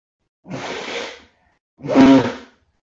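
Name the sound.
person blowing their nose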